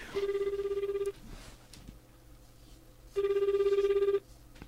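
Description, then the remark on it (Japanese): A phone call's ringback tone: two buzzy, warbling one-second rings separated by a two-second pause, clear and fairly loud over a faint background hum. “ちょ、待って、電話しようか。”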